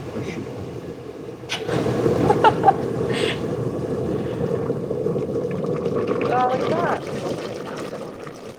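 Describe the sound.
A pot holding a liter of water at a steady rolling boil, a dense, continuous churning burble that swells slightly partway through, with faint muffled voices briefly audible underneath.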